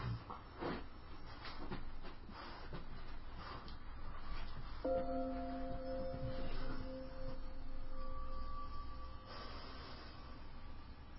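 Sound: tibetan bells ringing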